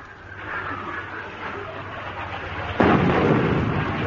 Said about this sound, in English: Oi, oi! Here comes another one! Everybody down! Good heavens, they must think we're off the ship. They're definitely shelling us.